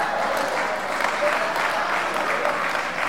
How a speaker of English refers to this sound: All you folks looked around, you seen these women clapping and all happy and shit.